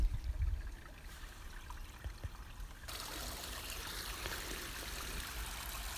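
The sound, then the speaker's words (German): A larger forest stream flows with a steady, rushing babble that grows noticeably fuller and louder about halfway through, then holds constant. A few low thumps sound near the start. “Einige Meter weiter durch den Wald und hier haben wir jetzt noch mal ein bisschen mehr Bach.”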